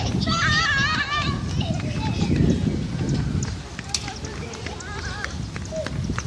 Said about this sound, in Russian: Нет, правда, это дети бегают